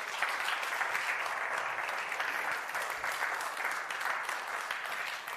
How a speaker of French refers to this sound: C'est fort, non? On va applaudir le Seigneur ensemble.